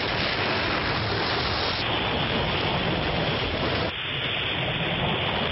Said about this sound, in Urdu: پہلے اسلام آباد آپ کو لیے چلتے ہیں، اس بارش نے موسم کو خوشگوار کیا، اور چند ہی کلومیٹر دور اسی بارش نے کیا کچھ تباہی مچائی، دونوں آپ کو دکھائیں گے. آئیے پہلے اسلام آباد میں ہونے والی بارش کے مناظر دیکھیے.